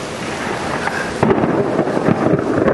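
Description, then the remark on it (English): Steady rain hisses continuously while deep thunder rumbles and rolls underneath, swelling louder partway through. No voices, just the storm filling the space with a dense, enveloping wash. “Being in a theater and hearing the sound of rain is just nice.”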